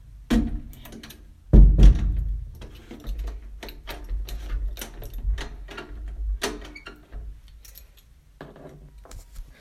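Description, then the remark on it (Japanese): A house door thuds shut with a heavy low knock, followed by a series of metallic clicks and scrapes as a key turns in the lock, as someone leaves home to go jogging, with no talking. “鍵を閉めて。”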